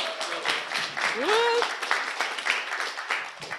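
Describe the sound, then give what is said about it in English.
A group of people claps steadily for a few seconds for volunteers coming up to help read aloud, a dense patter of hands that stays fairly loud throughout, with a brief rising whoop from someone in the crowd. “Well done, give them a clap.”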